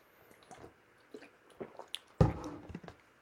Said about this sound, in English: Before I go on this little rant, let me have a little sip of this water.